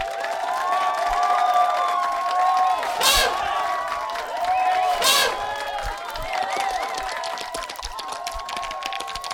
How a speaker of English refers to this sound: Well done, primates. Put your applauding appendages together and show your appreciation to Titus the Savage and his lovely mate.